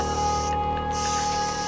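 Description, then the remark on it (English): A loud aerosol spray can hisses steadily as a statue is sprayed, cutting out for a brief moment midway before resuming its continuous spray. No one speaks. “Hey, spray that. Hurry up.”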